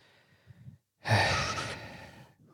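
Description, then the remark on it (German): Heavy, deliberate breathing: a faint short breath, a brief pause, then one long, loud, forceful exhale like a big sigh, with no talking. “Dreimal schnaufen.”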